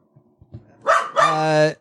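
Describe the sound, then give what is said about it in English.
A small, lone Jack Russell-like terrier crossing the street barks twice, a short sharp yap followed by a longer, drawn-out, high-pitched bark, fairly loud with faint background noise. “I'm going to go check on that dog out front.”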